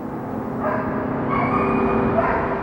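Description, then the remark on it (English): A dog yelps and barks in a few urgent, repeated bursts over a steady low mechanical hum, moderately loud, with no one talking; it is Darren's dog, yelping frantically at his home. “The daughter upstairs heard a dog yelping and told Darren's friend, "I think your dog is yelping."”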